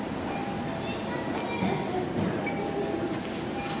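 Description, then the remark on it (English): A commuter train on the Kobe line toward Kobe rolls along the rails with a loud, steady rumble and rattle, thin metallic squeals threading through the continuous roar. “to take the loop line to Kyobashi, and then take the Tozai line to Amagasaki, and then take the Kobe line to Kobe?”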